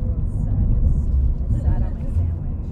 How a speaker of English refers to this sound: This is us. In our rental car, on our way to small town Ontario.